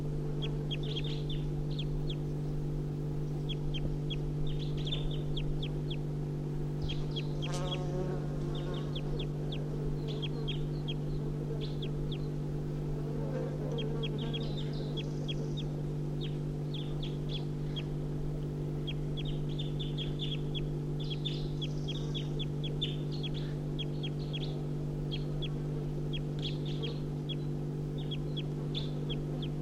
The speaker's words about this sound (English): Recording the wild birds giving flight calls now. It's 8:52.